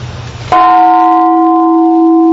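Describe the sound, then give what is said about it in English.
A large bell is struck once after a moment of soft background rumble, its deep, resonant tone ringing out loudly and sustaining steadily with rich overtones, rung in a garden at night at the exact moment the Hiroshima bomb dropped, 8:15 a.m. Hiroshima time. “This bell rang tonight at the exact moment the bomb dropped, 8:15 in the morning, Hiroshima time.”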